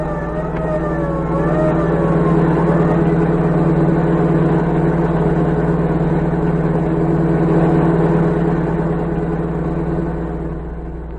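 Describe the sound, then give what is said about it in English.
The engine of a general's car roars steadily as it speeds toward the border, loud, with a faint wavering siren-like tone rising and falling in the first seconds before fading under the constant drone. “As the general's car sped toward the border, orders cracked out.”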